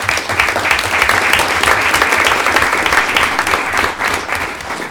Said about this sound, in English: And it just touched my heart. Just let's give them a round of applause.